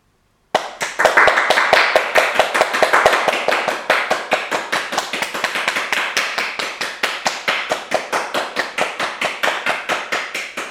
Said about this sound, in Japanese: 私たちの命を守るためにお使いくださっていらっしゃる医療従事者の皆さん、本当にありがとうございます。皆さんのお体が守られて、お休みできる時には休息が与えられますよう祈っています。心からの感謝を今日も拍手を持って表したいと思います。